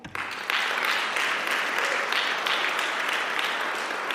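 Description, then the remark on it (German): An audience applauds steadily, a dense crackle of many hands clapping at an even, moderate loudness that continues for several seconds without letting up, applauding the 16 candidates standing for election in a church audience. “Könnt ihr mal bitte klatschen?”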